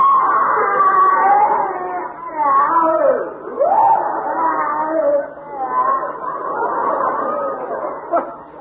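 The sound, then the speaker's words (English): A loud, drawn-out scream of someone in pain, a high wavering wail that rises and falls in pitch for several seconds with brief catches, with no talking over it. “Funny, it sounded exactly like someone in pain.”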